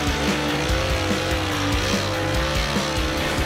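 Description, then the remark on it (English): A stock race car belonging to Kyle Petty is driven away from a parking lot. Its engine roars with a loud, steady drone while its tires squeal and skid, continuous for a few seconds with no talking. “You notice we came in one car and he left in another car. And the race car only has one seat.”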